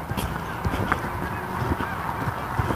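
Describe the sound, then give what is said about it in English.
A flock of about 30 to 40 geese flying in a V honking overhead, a steady chorus of overlapping calls against a continuous outdoor background, with no voices speaking. “There's more joining in, which is what the honking is about.”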